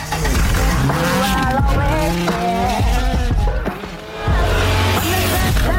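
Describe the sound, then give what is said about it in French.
A loud car engine roars and revs with tire squeals, layered over a song with melodic tones, continuous and dense throughout, briefly dipping before surging again. “Le truc, c'est juste un bruit de pot d'échappement sur une chanson, quoi.”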